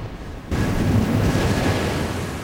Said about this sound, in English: Whilst people were enjoying themselves, outside, the weather was gradually deteriorating. Huge waves crash over the sea wall.